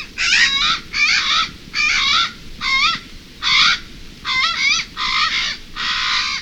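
A Hawaiian crow (Alala) gives about eight loud, harsh, wavering calls in a steady rhythm, each lasting roughly half a second, over a low rumbling background, with no talking.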